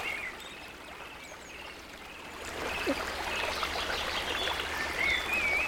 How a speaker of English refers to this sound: And you're hearing the water running. This is just great.